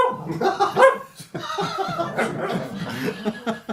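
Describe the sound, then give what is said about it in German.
A Lagotto Romagnolo, an Italian water dog kept at a pharmacy on Langeoog, barks and yaps in a rapid, uneven string of fairly loud vocalizations, with what sounds like soft chuckling mixed in. “Das Lagotto Romagnolo, ein italienischer Wasserhund.”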